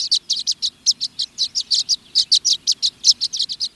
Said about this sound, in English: By contrast, violet-green swallows, which flock by the thousands in August, may all swarm together into a small night roost in the shelter of a patch of cattails.